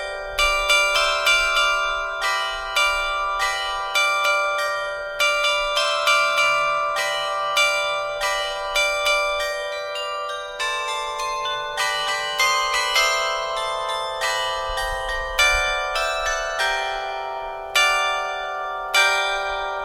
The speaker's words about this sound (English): In this second episode, the focus is on bells in the belfry.